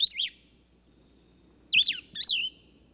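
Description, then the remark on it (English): A plumbeous vireo sings three short, slurred, high warbling phrases: one at the start, then two close together after a pause, heard alone over a faint low hum. “The Plumbius vireo's name derives from the Latin word plumbum, meaning lead.”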